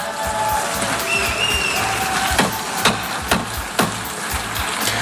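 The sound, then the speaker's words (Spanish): Delegates in the plenary hall of the United Nations General Assembly boo Israeli Prime Minister Benjamin Netanyahu in a steady, dense roar of many voices, with a few sharp claps and thin whistles cutting through the din. “Son los abucheos a Benjamin Netanyahu en el plenario de la Asamblea General de Naciones Unidas.”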